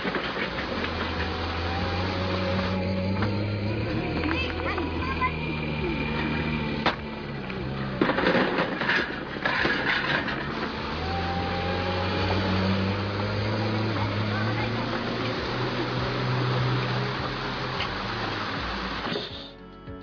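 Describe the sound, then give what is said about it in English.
A road printer paving machine, which covers up to 6 meters in a single pass, drones steadily with a deep, loud engine rumble for the whole stretch, a brief burst of clattering mechanical noise midway, and no voices. “The road printer revolutionizes road paving with its ability to cover up to 6 meters in a single pass.”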